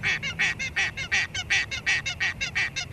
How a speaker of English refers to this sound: I think it's a Tasmanian native hen, only found here in Tasmania, and there's a lot of them here at the waterworks. The locals call them turbo chooks because they run around quickly instead of flying.